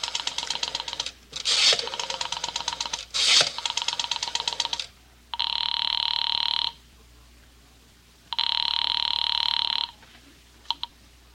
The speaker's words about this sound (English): But was the clock right? And Mrs. Morris, knowing how foolish it was, knowing it, went to the phone and dialed.